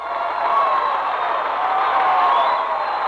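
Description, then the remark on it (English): An audience applauds a singer in an amateur contest, measured by an applause meter, in a steady, dense wash of clapping that holds at an even loudness for about three seconds, with faint cheers mixed in and no speech. “The applause meter indicates that you have won tonight's amateur contest.”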